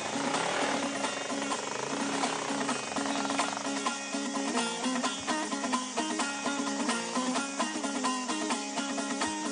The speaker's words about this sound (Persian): چون اینجا صدای هر موتوریه؟